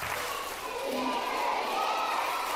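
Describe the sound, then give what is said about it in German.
A crowd of over 300 preschool children from 28 Catholic daycare centres in Bonn fills the space with continuous high-pitched voices and shouts, a dense, steady roar of chatter and cheering, as they clap, drum and sing in rhythm at the Solibrot drum-journey event in the St. Adelheid parish hall. “Wenn über 300 Vorschulkinder im Takt klatschen, trommeln und singen, dann ist Solibrot Trommelreise.”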